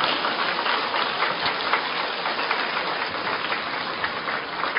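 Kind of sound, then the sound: crowd, audience applause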